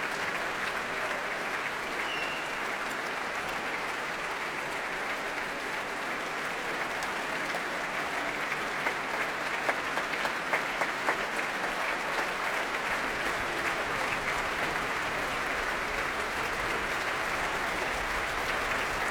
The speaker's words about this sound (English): Ilan Volkov, still applauding his orchestra, the orchestra of which he was chief conductor for 6 years.